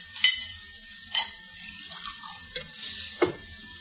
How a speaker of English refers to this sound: Don't bother, I'll mix myself another drink.